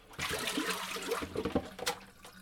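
Hot boiling water is poured in a steady, splashing stream for about two seconds onto a label to get rid of its glue, fairly loud, with a few gurgling surges near the end. No one speaks.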